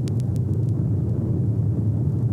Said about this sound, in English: So what I had to do next was build the sound effect from scratch. So I started with some roaring fire.